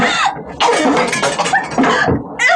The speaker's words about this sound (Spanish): De nuevo, toda la casa es sacudida desde sus cimientos. Las paredes se bambolean. El estallido calculado por Calimán, con admirable perspicacia, se produce a cierta distancia. Se escuchan nuevos derrumbes.